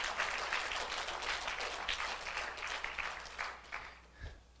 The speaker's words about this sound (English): Amen. All right. Maybe we could clap right here for the Lord.